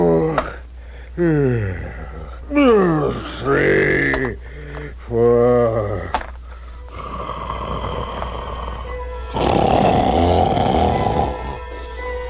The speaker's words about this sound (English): Soon the wicked giant was fast asleep, and the castle trembled with his snores.